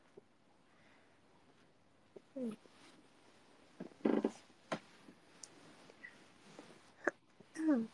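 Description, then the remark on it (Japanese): A cat that seems to have a stuffy nose snuffles through its nose, giving a few short, scattered snorts and a sharp sneeze-like burst midway, all fairly quiet against a hushed background. “鼻ふんふんしてる。”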